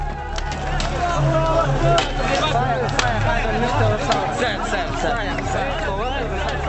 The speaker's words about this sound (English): Iraqi civilians cheer as they throw rocks at the dead Americans in and around the blazing vehicle. Amidst shrieks of delight, the charred corpses are then dragged through the streets.